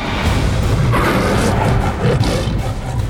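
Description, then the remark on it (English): A loud big-cat roar, a massive jaguar's deep rumbling snarl as it rushes forth, surging and holding for a few seconds with a gritty, growling texture and no talking. “The jaguar roared and rushed forth.”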